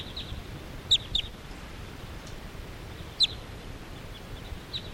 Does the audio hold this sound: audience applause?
no